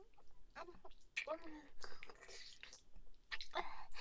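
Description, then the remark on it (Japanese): Soft, wet chewing and squelching mouth noises made without the teeth touching, with the tongue flicking, arriving in a few uneven bursts with faint breathy sounds between them. “歯を当てないようにもぐもぐして、君の清掃を舌でコリって弾いちゃうの。”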